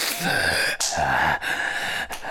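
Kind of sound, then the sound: human body sound, heavy breathing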